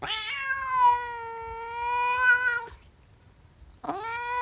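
A cat meows: one long, drawn-out, wavering meow, then a brief pause before a second meow begins and is cut off at the end. No one speaks.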